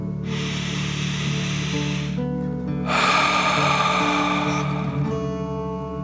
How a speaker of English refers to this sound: Remember to breathe in through your nose, filling up your belly, and then out, pretending you are breathing fire. Deep breath in and out.